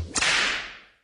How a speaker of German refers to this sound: Klatschende Seerobben unter Wasser. Klingt so logisch, dass es bestimmt ausgedacht ist.